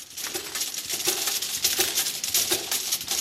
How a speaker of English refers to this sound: The sound is of glass vials the size of a thumbnail being put through a labelling machine at Allergy Therapeutics in Worthing.